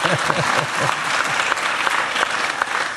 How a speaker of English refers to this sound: And you can give me a round of applause for doing what Lionel Messi could not do. Thank you very much.